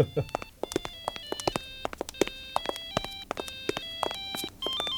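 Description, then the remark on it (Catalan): A mobile phone rings inside a coffin with a repeating electronic melody of bright, rapid beeping tones, steady and fairly loud throughout, accompanied by sharp clicking or tapping sounds. “A veure si encara hauran fotut un d'aquests morts al taüt amb telèfon i tot.”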